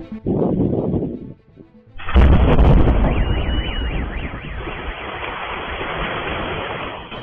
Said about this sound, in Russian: На Белгород упала авиабомба. Ее нес российский истребитель-бомбардировщик Су-34. Происшествие случилось 20 апреля. Взрыв был такой силы, что припаркованный на дороге автомобиль выбросило на крышу магазина «Пятерочка».